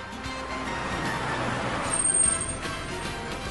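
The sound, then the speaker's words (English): A bus rumbles up amid steady street traffic, with a brief high hiss of air brakes rising over the engine noise partway through. No one speaks. “Here comes the bus.”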